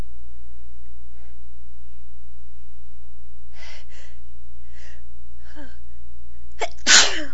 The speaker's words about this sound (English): Sneezing today. I cleaned the deck and I think it was sweeping all the excuse me.